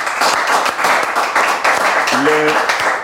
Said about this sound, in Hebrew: אתם נותנים מחיאות כפיים עצומות.